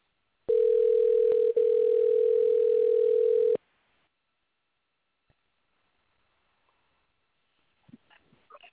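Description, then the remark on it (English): A steady, loud single-pitched ringing tone of an outgoing phone call drones for about three seconds, then cuts off into near silence with a few faint clicks and rustles at the end. No one speaks. “Let me call this guy up right quick, guys, and get him on the phone lines.”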